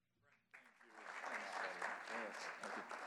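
A crowd bursts into sustained applause after a brief quiet moment, the dense clapping swelling quickly and holding steady at a loud level throughout.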